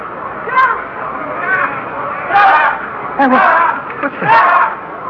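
An agitated crowd yells in a continuous, muffled roar, with several louder shouts surging out of the din every second or so before falling back into the steady clamor.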